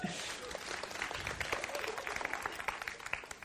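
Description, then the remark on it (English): An audience breaks into steady applause, many hands clapping in a dense, crackling patter that holds at an even, fairly loud level for a few seconds without pausing. “Thank you, Tim. Round of applause.”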